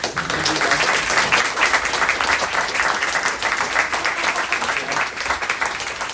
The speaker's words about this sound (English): Well, you just thanked yourself, because I was going to say thank you so much for coming. And that was a very hearty round of applause for yourself.